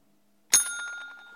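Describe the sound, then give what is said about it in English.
A single bright bell strike rings out sharply, its clear metallic tones sustaining and slowly fading over the following second without any talking. “Give me the bell, and then we'll really try to...”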